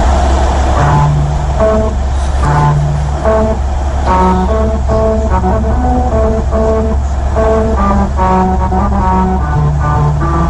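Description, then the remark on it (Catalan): A car rolls over a musical road, its tires droning out a sequence of distinct pitched tones that form a simple melody over a steady low engine and road rumble. “O sigui, això és un cotxe que va trepitjant.”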